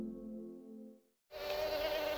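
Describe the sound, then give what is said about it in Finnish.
A steady mosquito whine hums for about a second, cuts to brief silence, then a louder, brighter buzz of mosquitoes swarms in and keeps droning to the end. “Täällä on hyttysiä.”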